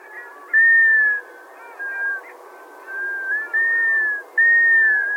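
A series of about five plaintive, minor-key, slightly descending whistled calls from wintering all-black sea ducks, passing through on their way to subarctic breeding grounds. The calls are clear and fairly loud and come in steady succession over a soft, murmuring background.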